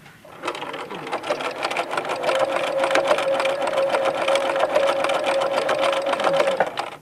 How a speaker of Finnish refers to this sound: No miten te tulitte hankkineeksi tänne ompelukoneen?